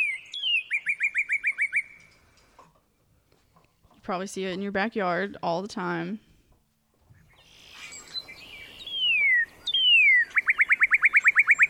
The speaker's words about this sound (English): Is that a tui? That's a cardinal. That's a cardinal? That's a cardinal. And I got it wrong.